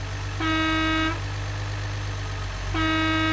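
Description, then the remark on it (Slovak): A garbage truck's horn blares two long, steady honks separated by a pause, over a constant low engine rumble, as the truck arrives. “Keď zazreli svetelný signál smetiarskeho auta, od radosti podskočili.”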